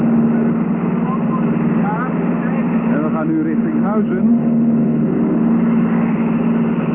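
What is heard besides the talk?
airplane engine drone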